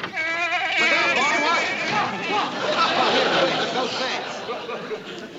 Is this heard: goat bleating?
yes